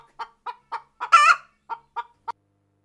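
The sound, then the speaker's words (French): A hen clucks in short, evenly spaced bursts, breaking into one louder, drawn-out squawk midway before returning to a few more clucks. Clear, with no talking. “Là vivait une vieille en haillons en compagnie d'un chien hirsute et d'une poule qui louchait.”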